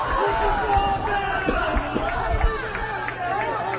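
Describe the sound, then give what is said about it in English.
A large stadium crowd at a football game in Wanneke roars steadily, a dense wash of shouting and cheering voices with a few sharper yells rising above it, sustained and loud throughout. “This quiet Wanneke crowd is roaring to life.”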